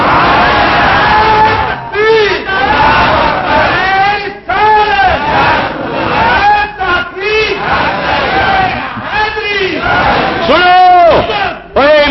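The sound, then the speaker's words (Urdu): A large crowd loudly chants slogans for Mian Sher Rabbani, many voices rising together in repeated surges with brief pauses between each call, sustained over the whole stretch. “دسو اتے میاں شیر ربانی دے بڑے نعرے پہ لگتے سن, لگ رہے سن”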